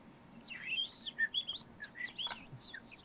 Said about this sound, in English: Why are there two fucking birds?